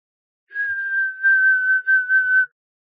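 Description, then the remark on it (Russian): A single shrill, steady whistle blown through pressed, pursed lips holds one high pitch for about two seconds, wavering slightly in loudness. It is clear, with no talking. “Не то пар из чайника вырывается, не то кто-то водит мокрым пальцем по воздушному шарику.”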